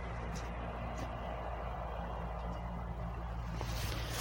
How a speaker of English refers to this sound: If you can hear in the distance, there's a tractor actually cutting the golf course green.